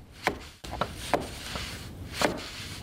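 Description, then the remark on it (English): About five sharp taps as a man fits weather stripping into the frame of a side door on a gray morning with light snow, irregularly spaced and fairly crisp, over a steady background hiss with no voices. “On a gray morning with light snow, a wiry man with a plaid shirt, a tool belt, and a full white beard taps weather stripping into place around a side door.”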